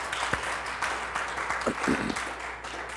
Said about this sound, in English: Yeah, go ahead and give him a hand clap for that. Hallelujah.